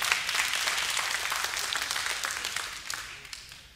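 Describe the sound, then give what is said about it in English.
A church audience applauds steadily, a dense wash of many hands clapping at once, fairly loud and sustained, easing slightly toward the end with no voices over it. “You can even maybe clap for that one right there.”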